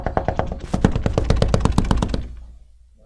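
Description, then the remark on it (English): A rapid, insistent series of knocks on a door, demonstrating a pleading, begging style of knocking: about fifteen quick raps in a steady stream that build slightly, then stop abruptly, leaving a brief quiet tail. “See, my knocking before would have been.”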